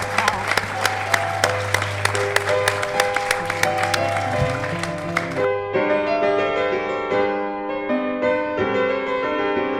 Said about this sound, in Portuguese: pido un aplauso para eles. Gracias a vos.